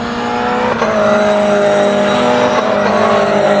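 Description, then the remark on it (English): A race car engine drones loudly at a steady high pitch at VIR, with a brief sharp jolt early on as the car rides over a curb, then the engine keeps roaring without pause. “Good looking race car. Coming out sideways. Oh, they're wheeling these hitting curves. Hitting the curbs.”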